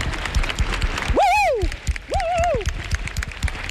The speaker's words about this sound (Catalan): Però clar, més de 1.000 euros és una cosa impressionant. No? Quan això passa, tota la seu, atenció, s'omple d'aplaudiments i emoció.